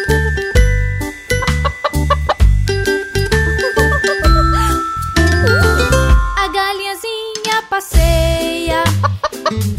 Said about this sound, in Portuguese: A galinhazinha passeia e bota ovos cacarejando. Lá nascem cinco pintinhos e os pintinhos fazem.